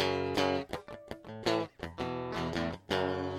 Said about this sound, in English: For instance, I'll play a guitar riff cleanly with nothing on it.